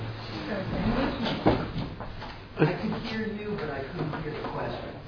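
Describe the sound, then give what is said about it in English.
Two short, muffled coughs from a woman outside the door, about a second apart, over a steady background of low murmuring voices. “She's coughing.”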